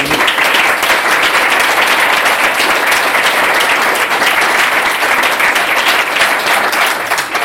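Sustained audience applause at the start of a book reading from the novel Im Jahr des Affen, a dense, steady wash of many hands clapping at an even loudness for several seconds, with no voices standing out.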